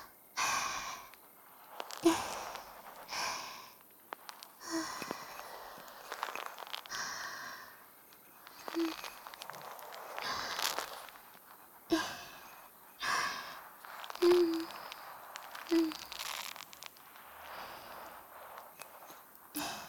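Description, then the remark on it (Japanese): Lathery shaving foam being mixed, to be put on a face for a razor shave, with soft, wet swishing and frothy squelches coming in irregular bursts. The sound is fairly quiet and breathy, and there is no talking. “もうちょっとだけ混ぜ混ぜしましょうか。こっちのお耳にも。”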